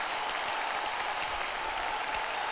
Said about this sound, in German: Ein Applaus darf natürlich auch nicht fehlen, der klingt dann entweder so